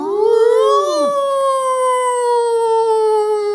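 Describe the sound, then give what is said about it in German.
A hand-cranked fire siren winds up into a loud, steady wail and holds its pitch for several seconds, continuous, with a brief extra swooping tone near the start. “Sirenenwilli hatte so eine Feuersirene, so eine Handfeuersirene.”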